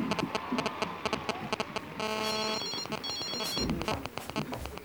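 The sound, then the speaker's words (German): A mobile phone ringtone, coming from inside a handbag, plays a bright, repeating electronic melody with steady harmonic tones, fairly loud, over a busy background of clattering rhythmic taps and no talking. “Das Klingeln des Handys musste aus ihrer Handtasche kommen.”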